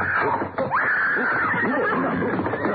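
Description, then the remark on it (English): A mountain lion screams in a loud, shrill, continuous cry, its raspy pitch sweeping upward early on and then holding a wavering, drawn-out wail for nearly three seconds. “Paladin, there's a mountain lion up”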